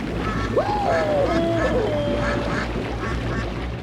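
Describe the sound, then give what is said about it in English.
A rubber duck lets out a drawn-out, squeaky quack that slides down in pitch and trails off, heard over a steady, loud low rumble like an engine or rushing water. The rubber ducks are moving together on the water towards a lifeboat. “It's those rubber ducks again. They're moving towards the lifeboat together.”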